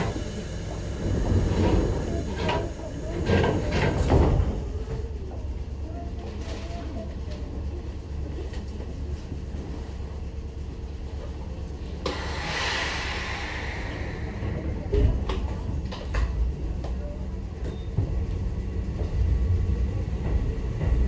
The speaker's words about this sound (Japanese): 次は西前田です。お出口は右側です。 The next stop is 西前田。The doors on the right side will open.